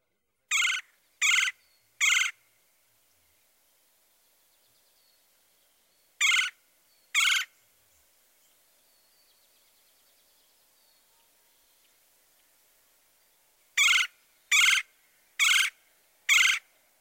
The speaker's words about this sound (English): Now the nasal trill of the red-bellied woodpecker.